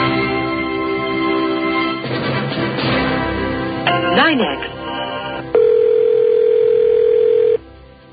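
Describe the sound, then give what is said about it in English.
A telephone line rings through the earpiece in long, steady electronic tones, separated by a stretch of garbled line noise and a brief chirping burst, heard alone without clear talk, as a call waits for a telephone operator to pick up. “Operator's coming on. He's about to pick up the phone.”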